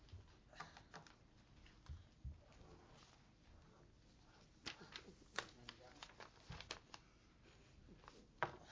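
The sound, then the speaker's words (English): Two pieces of paper rustle and crinkle as they are picked up and shuffled, with scattered crisp bursts of handling noise over several seconds and faint voices murmuring in the background. “So as you look at these, then I got two pieces of paper to pick up.”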